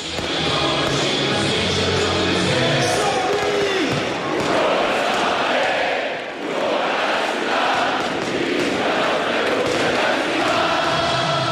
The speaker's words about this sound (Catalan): I salten els protagonistes a la gespa de la nova Creu Alta, Mosaic, i així sona l'himne del Sabadell.